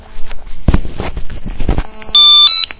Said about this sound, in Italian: Oh. Abbiamo una telefonata che interrompe il concerto.